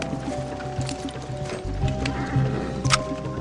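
Crisp mechanical clicks and ratcheting as a hidden firing mechanism, built into a camera in place of a lens, is handled, in short irregular bursts over a steady musical background.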